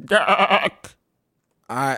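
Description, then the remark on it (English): A person voicing a goat man, a bipedal humanoid with goat eyes, imitates a goat's bleat with a loud, quavering, wobbling cry, then goes quiet for a moment before starting another nasal bleat-like sound. “This is the first time that any of us ever heard a goat man talk.”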